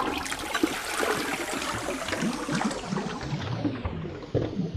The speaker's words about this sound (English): He kept insisting on flushing the toilets in each building to show me, first of all, that they were flushable